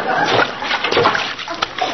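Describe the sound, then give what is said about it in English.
Diced cubes of potato splash and slosh into a pot of liquid as a recipe is cooked, a busy burst of wet splattering that churns on for a couple of seconds. “Now stand back. I don't want to splash anybody.”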